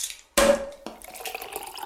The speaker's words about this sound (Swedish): Alltså, skål! Oh shit, men hjälp mig! Vi tog de äkta kristallglasen. Ja, jag brukar annars... Det hördes.